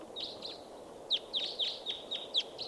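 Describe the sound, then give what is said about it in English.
A bunch of wild birds flying in, some stopping, give repeated high, sharp chirps in quick succession, several overlapping calls over a steady low rustling background, with no voices. “Bunch of birds here. A lot of birds flying in, and some stopping.”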